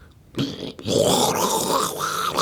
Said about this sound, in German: So, ich spüle mal kurz. Warte.